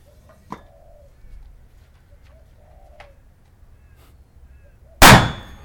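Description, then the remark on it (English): Soft bird cooing drifts through a quiet outdoor scene, then a single loud gunshot from a Magnum handgun cracks out near the end, with a brief ringing tail as the shot shatters the lid of a Coke bottle. “Shattered the lid on the Coke bottle.”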